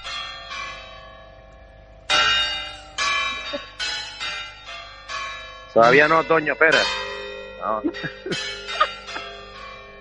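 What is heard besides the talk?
church bell chimes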